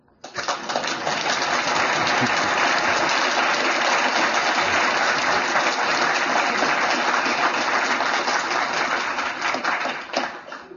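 A crowd breaks into sustained applause, a dense, even wash of many hands clapping at steady volume for about ten seconds before tapering slightly at the end.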